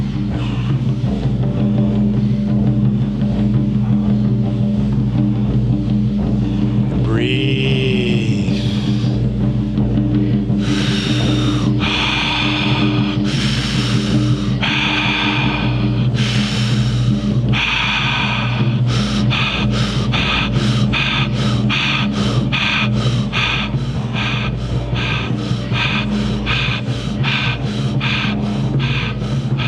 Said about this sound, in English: Deeper and faster now. Breathing through your mouth. Deep and fast. Feel the charge rising.